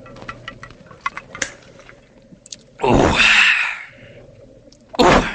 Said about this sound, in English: No, I'm just drinking some of this carbonated water that's flavored with lemon.